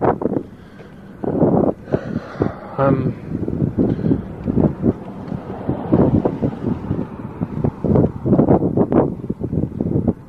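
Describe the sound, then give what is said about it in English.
Gusty wind at night buffets the microphone outdoors, producing loud, uneven rumbling bursts that swell and drop throughout, with faint, muffled voices partly buried beneath the blustery noise. “Windy tonight. Feels like rain, though it may not.”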